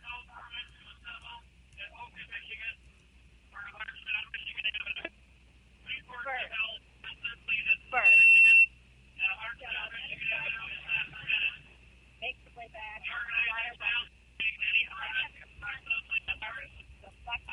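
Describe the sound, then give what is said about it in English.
A police loudspeaker announcement ordering people on Michigan Avenue to disperse comes through a phone held up to it, thin and muffled, a single amplified voice talking in long phrases, broken midway by a short electronic beep. “You can probably hear in the background, they're giving the announcement again.”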